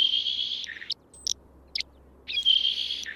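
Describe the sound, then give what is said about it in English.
A saltmarsh sparrow sings dry, hissing, high-pitched buzzes: two longer wheezy trills separated by a few short sharp chips, with no voices. “And breaking the bonds of conformity is a specialty of the salt marsh sparrow.”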